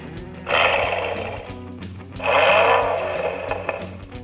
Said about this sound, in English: You want to know what a Mustang sounds like?